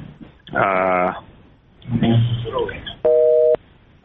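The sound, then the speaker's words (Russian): After a few seconds of muffled talking, a telephone busy tone sounds as the call with the ombudsman's representative for the Donetsk and Luhansk regions, drops: a steady, mid-pitched electronic beep lasting about half a second, followed by the start of another repeat. “Прервала связь, постараемся сейчас восстановить ее с представителем омбудсмена в Донецкой и Луганской области ….”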